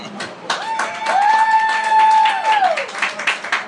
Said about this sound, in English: They're clapping because we're winning. I thought they were clapping for the food.